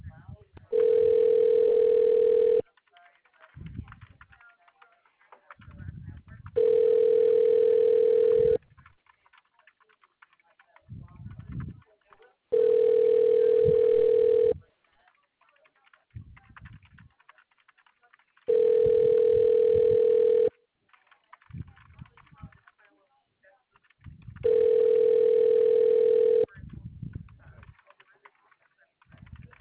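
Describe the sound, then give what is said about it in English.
A telephone ringback tone sounds five times in long, steady bursts about every six seconds while a customer call is being transferred to a representative in the appliances department, with quieter muffled noise and faint voices in the gaps between rings. “Okay, so it is just ringing and ringing.”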